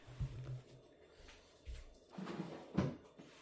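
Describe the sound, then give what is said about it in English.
Muffled thumps, scrapes and clattering come in irregular bursts as a man goes through drawers, quiet with no talking. “I can hear him going through drawers.”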